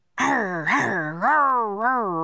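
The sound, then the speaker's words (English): A human voice imitates the fierce growl of a dog named Teddy, its barks turning to growls: one sustained, loud rumbling vocalization lasting about two seconds, rising and falling in pitch with no other sounds. “Jack heard Teddy's barks turn to fierce growls.”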